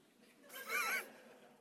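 donkey braying

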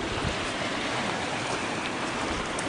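creek water flowing

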